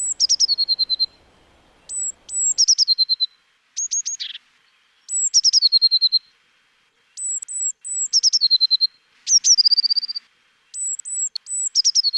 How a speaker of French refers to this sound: Et puis dans votre jardin, vous aurez sûrement aussi la possibilité d'entendre la mésange bleue. Alors la mésange bleue, elle fait aussi un joli chant, une espèce de petit hennissement comme ça, qu'elle répète souvent plusieurs fois.